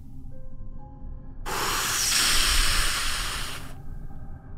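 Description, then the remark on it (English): A flare fired from a flare gun angled up into the sky lets out a sudden, loud, steady hiss that rushes on for just over two seconds and then cuts off, over a low rumbling background and a faint thin tone. “The flare hissed into the sky, trailing brilliant red light that flickered across the trees like a scream made visible.”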